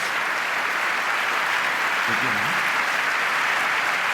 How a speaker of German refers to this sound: euer Applaus.